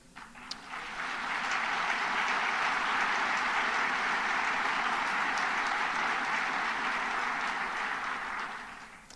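Steady audience applause, a dense wash of many hands clapping that swells in quickly, holds at an even, loud level for several seconds, then tapers off at the end. No one speaks.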